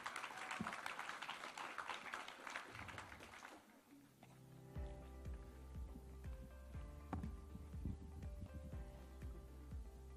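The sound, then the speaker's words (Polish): A crowd applauds the team from Stargard in a dense, steady wash of clapping for a few seconds, which fades out as upbeat music with a thumping bass beat takes over. “I wielkie brawa dla drużyny ze Stargardu.”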